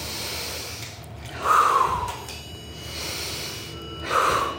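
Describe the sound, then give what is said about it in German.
Slow, deep belly breathing by a person lying on their back on a soft mat on a parquet floor. This is in the yoga room of a wellness hotel at Zeller See, during a preparation course for ice bathing. There are two long airy inhalations roughly three seconds apart, each swelling and fading with a soft rush of air. No talking. “Ich liege auf dem Rücken, eine weiche Matte zwischen mir und dem glänzenden Parkettboden und atme tief in den Bauch.”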